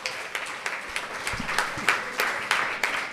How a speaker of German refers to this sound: Also Applaus.